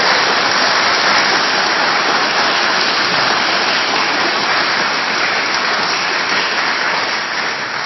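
An audience applauds steadily, a dense, even wash of many hands clapping at a loud, constant level for the whole stretch, with no voices breaking through.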